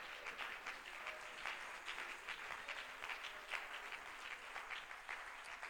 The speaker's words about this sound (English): Would you clap your hands to the Lord one more time?